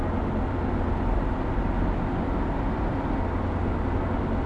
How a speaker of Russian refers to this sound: Машина проезжает мимо дома Павла, поворачивает, проезжает мимо супермаркета, заворачивает на Невский проспект.